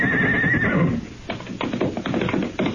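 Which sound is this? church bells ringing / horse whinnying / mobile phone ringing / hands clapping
horse whinnying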